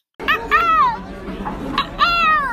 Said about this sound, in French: La mouette qui se réveille